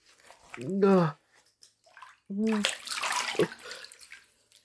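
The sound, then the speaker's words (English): Rough scrubbing with a loofah in bathwater, a steady rasping, splashy noise lasting a couple of seconds, preceded by two short wordless vocal groans. “Oh, I think I could sand a table with how rough this loofah is, and yet somehow, you are still disgusting.”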